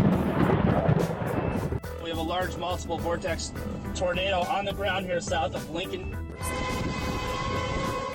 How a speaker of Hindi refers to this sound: America की कई रियासतें एक बार फिर बिफरे हुए मौसम की लपेट में हैं, जहां लोगों को टॉर्नेडो और तेज हवाओं के तूफान और जालाबारी का सामना है।